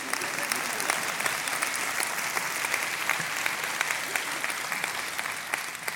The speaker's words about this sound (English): Let's pray. Oh, you can clap.